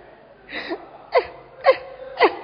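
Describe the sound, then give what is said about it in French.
A preacher mimics the whimpering sobs of someone crying over having to give 10 Ghana in an offering: four short, strained wailing bursts with sharp falling pitch, spaced roughly half a second apart, moderately loud with no other sounds. “Tu pleures comme si on t'a arraché 5 dents en même temps.”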